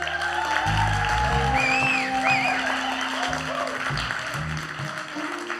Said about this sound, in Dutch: Allereerst wil ik een applaus voor de drummer in ons midden.